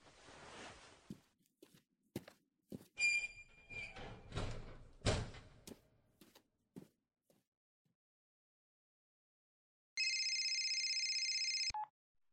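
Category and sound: signal or alarm, telephone dialing and ringing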